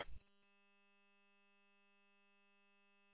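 A steady, buzzy air conditioner hum, working hard on a hot day, drones on unchanging through a radio after a brief crackle of noise at the start, with no talking.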